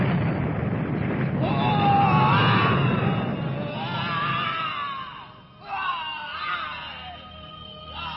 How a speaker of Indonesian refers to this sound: Makhluk raksasa itu akhirnya lenyap setelah terdengar suara teriakan yang menggelegar.